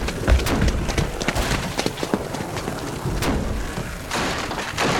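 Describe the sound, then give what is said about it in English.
Heavy, repeated pounding on a lobby door with rubble against it, a series of loud dull thuds at an uneven, urgent pace over a rumbling, noisy background, with no voices. “There's rubble against it, and they're still pounding on it!”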